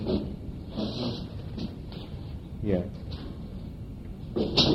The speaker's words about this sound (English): My chair is breaking.